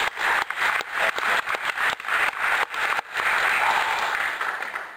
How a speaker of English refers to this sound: It's hard to get up after that story. Well, let's give a round of applause to God for that one.